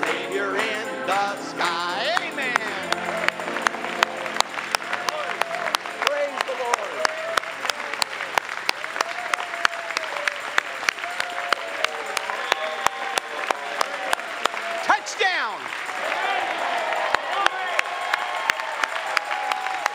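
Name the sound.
audience applauding and shouting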